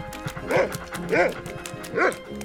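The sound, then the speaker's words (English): Three loud dog barks come in a steady rhythm about half a second apart, each with a bright harmonic yelp, over a low background of muffled voices. “Floppy was being chased by a bigger dog.”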